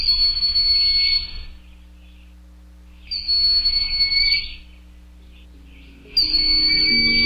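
broad-winged hawk call

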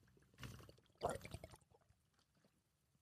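drinking water

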